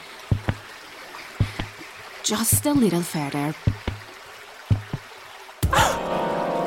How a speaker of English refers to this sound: Well, I don't look down at all. The fast-moving river down there makes me feel dizzy.